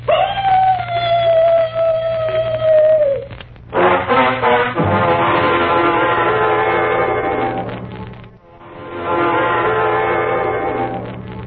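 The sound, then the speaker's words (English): A mournful dog howl performed by a performer: a long howl that rises and holds steady for a few seconds, then breaks into louder, rougher, overlapping wailing that pauses briefly and starts again. “First, the mournful dog howl.”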